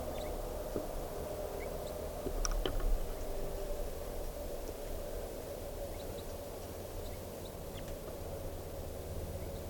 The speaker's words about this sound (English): I hear chitter of crossbills up in the trees right above me.